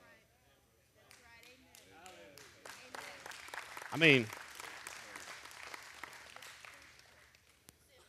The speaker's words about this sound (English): God bless the half of you that just clapped, right? I mean, seriously, I know when it's half-hearted. That was like a little golf clap.